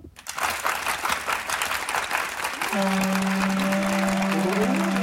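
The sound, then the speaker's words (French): A theatre audience in the stalls (parterre) at a Victor Hugo play breaks into loud, dense applause, with Nerval, Gautier and Balzac among those clapping and soldiers in the galleries answering. The applause carries on throughout, with a low sustained hum joining partway through beneath the clapping. “Le parterre applaudit.”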